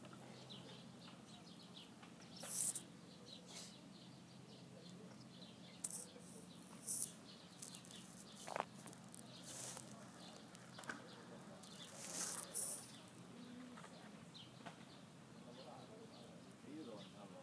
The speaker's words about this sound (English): As we sail, you can notice the ducks in the water. And the variety of birds that flies above.